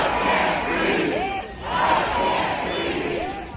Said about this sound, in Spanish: El hombre gritaba: "No puedo respirar, no puedo respirar", y este lema se ha convertido en el grito que corean los manifestantes antirracistas.